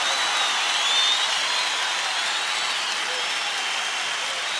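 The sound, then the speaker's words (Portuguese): Sustained audience applause in praise of God, a dense and steady wash of clapping from many hands that holds at an even, fairly loud level for several seconds with no voices heard. “Aplaudam mais forte, porque Ele é digno.”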